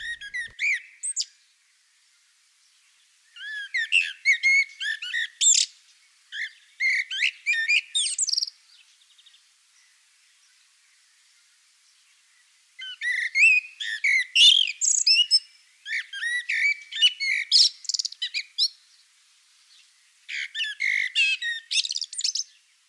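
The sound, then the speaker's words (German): A common blackbird sings alone, clear: about six rich, warbling phrases mixing whistles with twittering chirps, each phrase separated by brief pauses and one longer silence in the middle. “dass die meisten Amseln gar nicht Deutschland mehr verlassen im Winter.”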